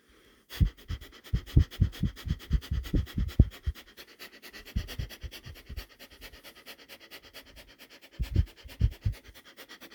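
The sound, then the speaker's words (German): Quick, forceful breaths pushed in and out through the nose in rapid rhythmic bursts, coming in three runs separated by short pauses, fairly loud with no talking. “Und wir atmen durch die Nase ein und aus.”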